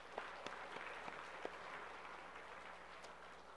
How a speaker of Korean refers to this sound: 그래서 연세 드신 두 분이 걸어 오셨는데 박수 한번 하겠습니다.